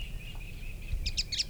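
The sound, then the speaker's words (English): A bird sings a steady high-pitched trill, then breaks into a quick run of bright chattering notes near the end, the chatter from a supposed female, over a low rumbling background. “Eight, chatter was from the supposed female. At least the bird that is singing last.”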